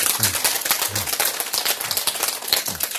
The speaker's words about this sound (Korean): 박수.